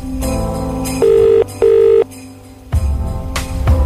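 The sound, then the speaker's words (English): A phone line, called from the 4th One radio show to a listener about a Cash for Kids application, rings out with two steady, mid-pitched electronic ring bursts, each about half a second, following a brief burst of busy background music that returns afterward. “All right, let's get Louise on the phone.”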